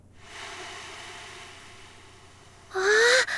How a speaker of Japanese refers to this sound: あ、波の音、なんだかリゾートにいる気分。 わ、海辺でお昼寝したらきっと気持ちいいだろうな。